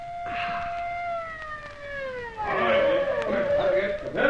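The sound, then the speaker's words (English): A person imitates an alley cat's meow with a long, drawn-out wail that slowly slides down in pitch, followed by a louder, rougher yowling vocal sound. “Meow like an alley cat.”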